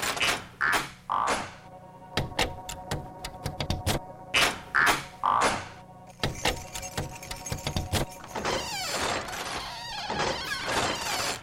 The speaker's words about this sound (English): It is now the dinner hour. Time for the turning sound of latchkeys to echo throughout the land as grown-ups arrive home from work.